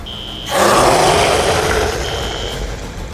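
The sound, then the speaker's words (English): A giant clawed monster's roar bursts in abruptly and loud, a harsh, broad, rumbling bellow sustained for over two seconds, with a thin high whine heard just before and near its end. “The monstrosity beamed with a sinister smile, then let loose a hellacious roar.”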